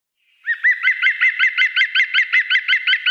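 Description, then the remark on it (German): A bird sings a fast, steady run of repeated chuckling notes that sounds a bit like laughter, loud, continuing without pause and with no voices present. “Ja, es klingt ein bisschen wie Lachen. Ja, das ist der Gesang.”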